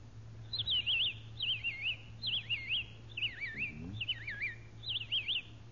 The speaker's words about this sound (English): A robin. Robin?